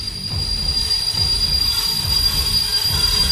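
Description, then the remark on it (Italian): A train's wheels squeal loudly in a sustained, high-pitched screech over a heavy, continuous rumble of railcars, as if braking. No voices are heard. “Fermi tutti, fermate il treno e scendete tutti.”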